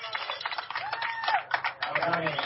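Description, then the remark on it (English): A ballpark crowd cheers for a base hit, a single hit toward center field: a dense, steady roar of many voices that swells slightly midway and carries on without a break. “Swung on, hit towards center field. Yeah, the crowd likes it. It's a hit.”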